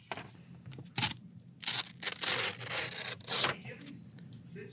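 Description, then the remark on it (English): Paper being cut with a small knife or razor: a short scratchy slice, then longer rasping strokes that rustle and crackle, with a low murmur underneath. “Oh, I have a little knife. I have a razor. I'm going to do my best to not cut myself right now.”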